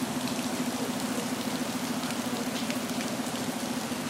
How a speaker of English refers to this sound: I didn't go quick enough and it started to rain hard again.